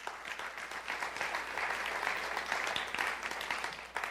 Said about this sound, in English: Why don't we give God a clap for that?